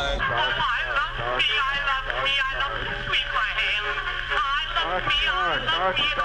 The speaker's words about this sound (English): More echo. False echo.